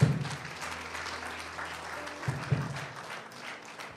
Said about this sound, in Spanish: No se me van a dormir, denle un aplauso al Señor, hermanito.